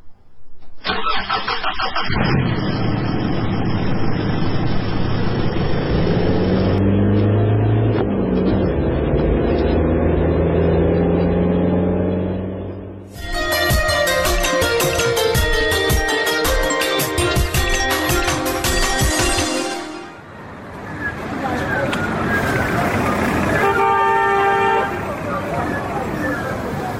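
A car engine turns over and revs, its pitch climbing as the vehicle pulls away, then a loud steady rumble of driving continues, broken by short honks of the horn near the end.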